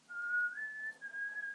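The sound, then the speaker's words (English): A person whistles a short melodic line, the pure tone stepping up in pitch partway through and holding steady, close and clear with no talking over it. “Have a guess. Apart from whistling.”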